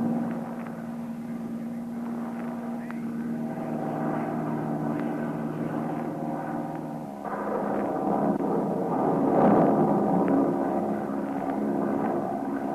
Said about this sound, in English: This plane is too underpowered to climb above it. We'll try to go right through. Hope the wings stay on.